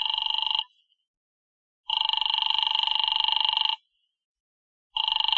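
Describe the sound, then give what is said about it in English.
A telephone rings in repeated long bursts separated by silent pauses, loud, with no one picking up or speaking; a call to Diamond's office that goes unanswered. “His office don't answer.”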